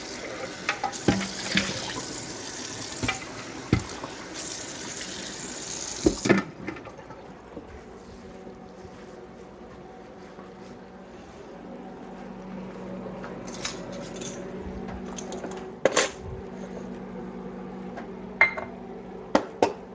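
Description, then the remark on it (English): Running tap water pours steadily into a sink for the first few seconds, then quieter splashing and rinsing follow with sharp clinks of metal cups knocking together as Williams Sonoma dry measuring cups are washed, with no voices. “Now, cleaning the dry measuring cups now.”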